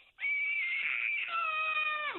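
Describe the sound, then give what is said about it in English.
A 5-year-old girl lets out a loud, shrill, drawn-out yell, imitating her mother yelling when angry. It holds a high strained pitch for about two seconds, then drops off abruptly. “Like, what does it sound like when I yell?”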